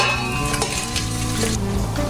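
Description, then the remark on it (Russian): Cumin seeds and other spices crackle and sizzle in heated oil with a steady, dense hiss, broken by occasional sharper pops and a faint stirring scrape, with no one talking. “Затем, когда масло нагревается, мы ложим специи, семена кумина.”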